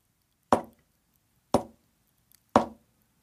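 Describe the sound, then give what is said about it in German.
Three soft knocks on a prison cell wall by the prisoner in the neighbouring cell, evenly spaced about a second apart, each a short dull thud with a quick decay, against near silence with only a faint tick between the second and third. “klopft dreimal leise.”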